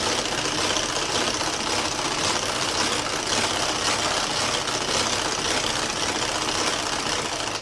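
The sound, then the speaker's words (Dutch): A hand-cranked rotary beater whips a mixture in a steady, continuous whir, a dense rattling churn that keeps an even pace and loudness for several seconds, with no voices. “ofwel met je klopper met de hand, ofwel met zo'n apparaatje zoals ik heb, zoals ik kan draaien, ofwel met je elektrisch apparaat, met je mixer, met je kloppers.”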